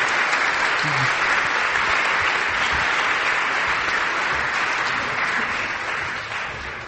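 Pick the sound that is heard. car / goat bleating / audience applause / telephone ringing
audience applause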